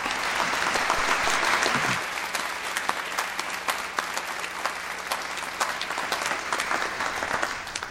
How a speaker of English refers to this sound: And I want to applaud you now, invite all to join me as we applaud your gifts.